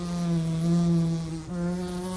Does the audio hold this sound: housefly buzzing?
yes